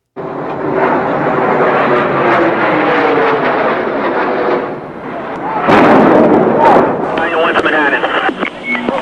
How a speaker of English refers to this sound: We just had a plane crash into level 4 of the World Trade Center, transmit a second alarm, and start relocating companies into the area. The World Trade Center, tower number 1, is on fire. The whole outside of the building was just a huge explosion.